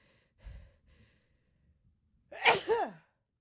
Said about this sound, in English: And it, oh, I got to sneeze.